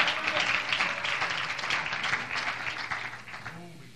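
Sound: audience clapping hands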